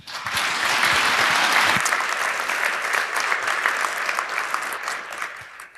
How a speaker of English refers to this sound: So please give a round of applause